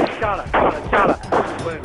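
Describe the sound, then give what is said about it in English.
Three sharp, loud gunshot-like cracks fire at a steady pace, roughly every half second, during a mass street protest and violent government crackdown in Burma in September 2007, with agitated voices clamoring underneath. “Do you hear? They are shooting.”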